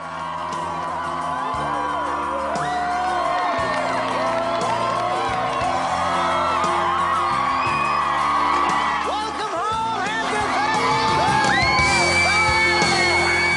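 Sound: crowd cheering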